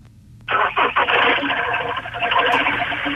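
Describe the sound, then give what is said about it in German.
A car engine in the Spreewald turns over with a few sputtering pulses, then settles into a steady, rough running drone that fills the whole clip. It sounds thin and band-limited, like a phone line. “Dann werden wir jetzt ganz andere Glocken hören, nämlich die aus dem Motorraum kommen.”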